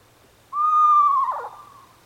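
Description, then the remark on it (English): A screech owl gives a single eerie call: a steady, high wavering note that breaks into a rough, quavering descent before fading out, heard alone. “we have the noise for that, the sound of the screech owl, don't we?”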